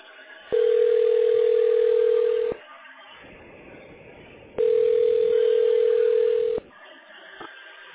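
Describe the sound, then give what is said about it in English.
A phone line rings back twice as a call is placed to a tax specialist: two steady, mid-pitched tones, each about two seconds long, separated by a quiet gap of low hiss, with no voices. “Okay, we're dialing the tax specialist already.”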